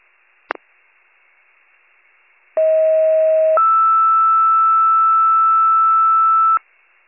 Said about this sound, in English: Pager test, siren test to follow. Repeating, Warren County with your 1805 pager test, siren test to follow.